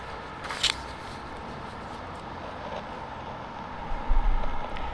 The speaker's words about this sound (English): I just like coming here, you know, it's just like it's kind of a nowhere place. It's just like cars going past.